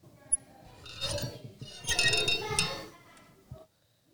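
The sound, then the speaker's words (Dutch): Loud, rasping snoring from the big bad wolf in grandmother's house in a Little Red Riding Hood story: a shorter snore followed by a longer, rougher one, each with a buzzy, throaty tone, before falling quiet. “Nou, grootmoeder kan wel snurken, zeg.”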